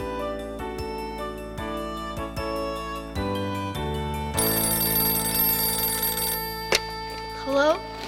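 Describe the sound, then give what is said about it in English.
A telephone bell rings with rapid, repeated metallic strikes, clear, then gives way to a louder, hissy stretch of noise and a brief rising vocal sound near the end. “The phone rings.”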